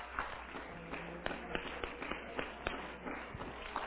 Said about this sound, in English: Somebody clap your hands and love Him just for a moment here right now. Hallelujah.